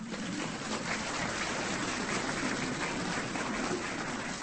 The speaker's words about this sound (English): I applaud you in that. Give yourselves a hand.